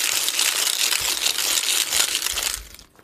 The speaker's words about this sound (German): ich habe hier eine Geldbox. Die raschel ich jetzt ein bisschen.